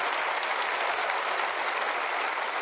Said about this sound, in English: Yeah, if you feel like clapping.